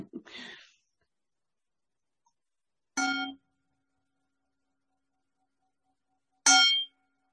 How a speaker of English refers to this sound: I'm going to ring this bell right now, and let's take 3 breaths together, shall we?